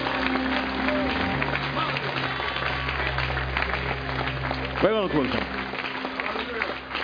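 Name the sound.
audience clapping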